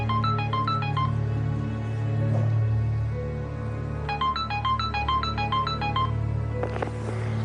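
A telephone rings twice before an answering machine picks up, each ring a quick warbling electronic trill, with a pause between them over a steady low hum, then a brief clunk near the end.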